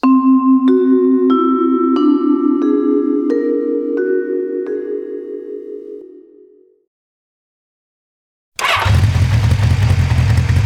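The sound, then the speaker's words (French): A motorcycle engine revs hard at full throttle and shifts up through several gears, its whine climbing in steps as it races off and fades away, followed by a brief silence and a burst of loud noise. “elle est partie sur une moto. Et sur la moto, à fond la caisse.”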